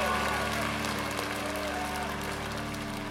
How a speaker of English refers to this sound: Suddenly, Houdini bursts through, soaking wet, but with a broad grin on his face. The old man explodes into applause along with the crowd.